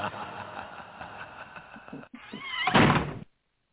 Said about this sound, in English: Keep getting hit by that door.